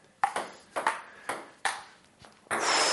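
A ping pong ball clicks sharply back and forth in a quick rally, with crisp paired taps from bounces and paddle hits, followed by a sudden burst of steady hiss near the end.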